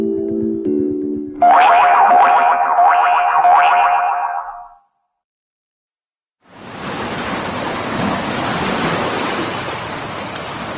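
After a short electronic boing-like jingle and a brief silence, a steady, loud wash of ocean waves rolls in and continues to the end, with no voices.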